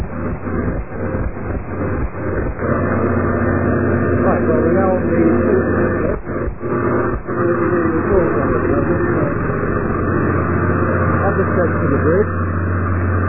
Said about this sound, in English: there's a lot of noise coming through. Beg your pardon? There's a lot of noise. Could you try and get away from the generators a bit more? Okay, how's that? Okay, that's a bit better.